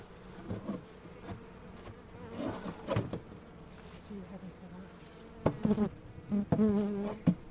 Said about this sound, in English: Still some bees in there. Strange that they're not going out though.